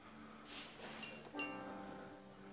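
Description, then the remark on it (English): Glassware, including a wine glass and a teapot, clinks on a tray as it is lifted: a soft rattle, then a sharper chink whose bright ringing tones linger faintly. “can you just lift this tray up for me?”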